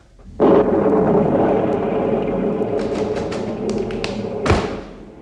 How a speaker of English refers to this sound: The storm.